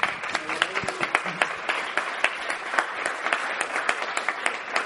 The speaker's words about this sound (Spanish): os invito a que le deis un aplauso de bienvenida.